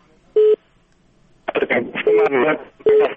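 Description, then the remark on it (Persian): A caller's telephone line cutting off during a call-in broadcast, marked by short, steady mid-pitched electronic beeps: one sounds alone, then two more repeat over someone talking. “متاسفانه تلفن قطع قطع کیجی.”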